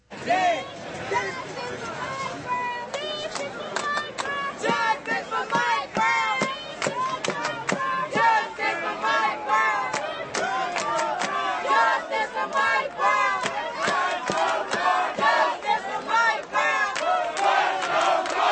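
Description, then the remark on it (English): A large protest crowd chants and yells in loud, overlapping bursts. Protesters chant "justice for Mike Brown" while Cardinals fans yell "let's go Cardinals". Many voices shout rhythmic phrases, with sharp claps and whoops breaking through the steady roar. “So they say, justice for Mike Brown, then the Cardinals fans start yelling, let's go Cardinals.”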